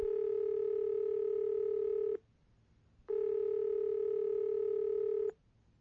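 A telephone dialing tone from a call placed from Denver sounds in two long, steady buzzing bursts of about two seconds each, separated by a brief silence, with no voices present.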